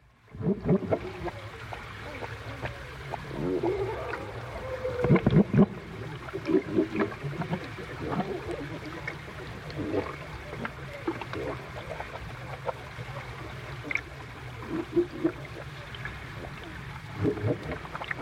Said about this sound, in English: using the hydrophones just to listen and have them in stereo as well gave a really real good sense of seals swimming around your head